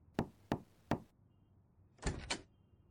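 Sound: knocking on a door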